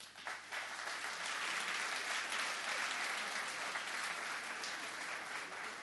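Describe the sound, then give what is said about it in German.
Steady audience applause as an audience member is called up front, a dense, sustained patter of many hands clapping at an even level with no voices over it. “Dann komm doch du mit der 22 hier mal nach oben. Applaus.”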